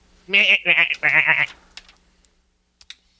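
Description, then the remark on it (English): A goat lets out a loud, wavering bleat in three quick bursts, followed by a couple of faint clicks and near silence. “That's a goat boy.”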